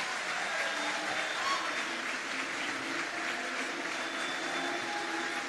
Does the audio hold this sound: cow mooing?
no